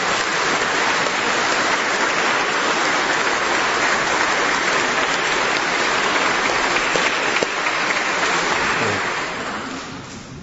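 A crowd applauds steadily, a dense wash of many hands clapping at an even level for about nine seconds before it begins to thin and fade out at the end. No one speaks.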